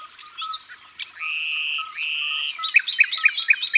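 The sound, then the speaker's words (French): A common nightingale sings at dawn, mixing sustained whistled notes with a rapid series of sharp, repeated chirps in a lively, varied phrase, with no voices. “on entend bien le rossignol maintenant, avec son chant incomparable.”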